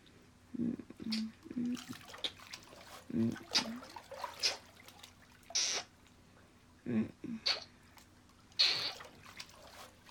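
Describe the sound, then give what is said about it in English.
Water is poured down someone's breast during a hot bath, in a series of short, uneven splashes and trickles over about ten seconds, with soft gurgles and brief quiet gaps between pours, and no talking. “Now let me come round to your front and just pour some water down your breast.”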